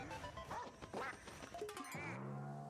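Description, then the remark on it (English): A rapid run of squawky, electronic-sounding duck quacks from a Nintendo video game, linked to Duck Hunt, loud, ending in a drawn-out buzzy tone; no one speaks. “Oh, no, it's the bird. What? It's Nintendo bird.”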